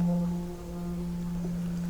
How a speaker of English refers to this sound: Hear the sound of the bell.